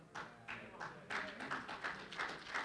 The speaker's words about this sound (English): Y'all force that applause. Y'all ain't got to do all that.